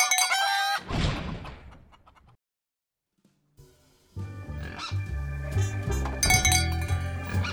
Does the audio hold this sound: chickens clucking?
yes